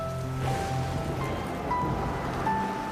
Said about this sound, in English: At night, they return home as rain pours down on the car. Lightning flashes.